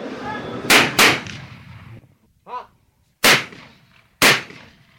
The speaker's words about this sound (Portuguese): Estes são os tiros da Tatiana e do José, que estavam aqui a praticar no campo de tiro de Valpaços